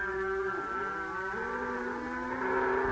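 A water buffalo lows in a long, drawn-out bellow lasting a few seconds, its pitch wavering and sliding as it goes, fairly loud against a low background rumble.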